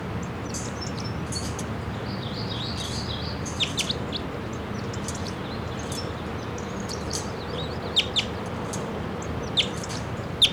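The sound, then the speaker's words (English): A wild male bird about 20 feet up sings short, high-pitched song phrases, with bright chirps and quick trills recurring throughout over a steady low background rumble. No one speaks. “Little song phrases there about it.”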